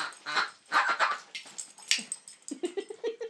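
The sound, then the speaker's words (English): A long squeaky toy is squeezed over and over, giving a run of high rubbery squeals followed by a quicker series of deeper, lower-pitched, duck-like squeaks from the toy's tail toward the end. No one talks. “It sounds like the tail's got a different squeak to the body.”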